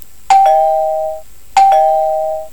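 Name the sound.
doorbell ringing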